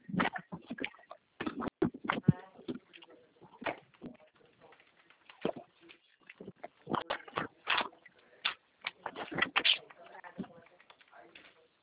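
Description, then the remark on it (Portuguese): Keyboard typing: a steady run of quick, uneven clicks and taps, sometimes in brief bursts and pauses, continuing throughout with a slightly muffled, phone-line quality, as a person types in a CNPJ company number during a phone call. “Consegui, estou digitando já.”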